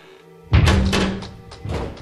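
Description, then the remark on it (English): A heavy door swings shut with a solid, low thunk, followed by a second muffled knock as it settles and seals the room in tight. Fairly loud, with no one speaking. “If you want to see what all this is in aid of, you have to close the door.”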